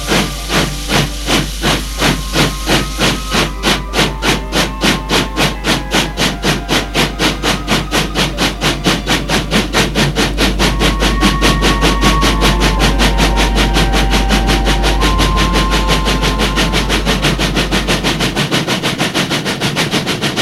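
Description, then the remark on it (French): A train engine chugs along the rails toward Paris in steady, loud rhythmic puffs that gradually speed up, with a constant hiss of steam and a deep rumble underneath. No one speaks. “Il part en train.”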